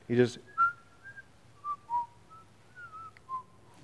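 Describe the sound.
Someone whistles a string of scattered, tuneless notes, short and long pitches wandering up and down with no melody, moderately loud, after a brief burst of voice at the start.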